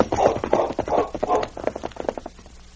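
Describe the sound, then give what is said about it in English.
Horse hoofbeats thud in a quick, irregular clatter, loud at first and then growing fainter and sparser over the last second. No voices are heard. “A short time later, as the sergeant's horse struggled over the crest of the hill, the sound of hoofbeats was heard.”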